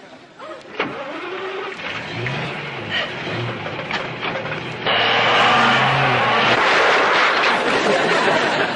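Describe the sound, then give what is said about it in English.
A motor car with an internal combustion engine runs steadily with a droning, shifting pitch, then grows noticeably louder and rougher partway through as the car drives on, continuous. “It's a complicated motor vehicle based on the principles of the internal combustion engine, a machine far too complicated for you to understand.”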